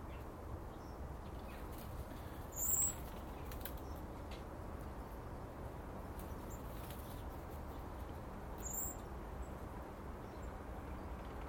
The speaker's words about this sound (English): I'm going to get my head scalped with blackbirds shooting over the top of me.